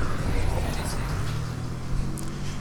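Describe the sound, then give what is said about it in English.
A car speeds by fast on a curving street, its engine and tire noise forming a loud, steady low roar that fills the whole moment without a clear fade in or out. “Here comes a car going mighty fast.”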